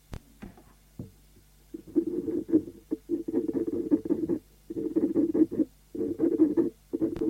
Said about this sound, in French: Son écriture est petite et ronde. On entend le bruit que fait la plume de son porte-plume.